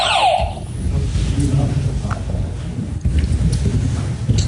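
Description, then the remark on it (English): A quiz buzzer being tested gives a short, bright electronic tone right at the start, then fades into a steady murmur of voices and background noise for the rest. “Test your buzzers.”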